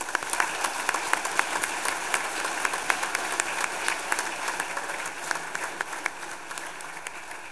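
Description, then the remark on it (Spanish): A crowd applauds steadily at a public ceremony in the municipality of Jala, Nayarit, Mexico. Many hands clap in a dense, crackling wash with sharp individual claps popping through, holding an even level throughout without any voices. “Para los cuales les pido un fuerte aplauso a todos ustedes.”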